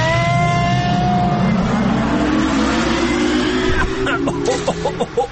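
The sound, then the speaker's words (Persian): A time machine powers up with a deep, rising engine-like hum and a falling whine, swelling steadily before breaking into rattling clicks and bursts as it departs. “آهان دیگه سفارش نکنم و ماشین جای خوبه میبری یا آفرین برو بریم.”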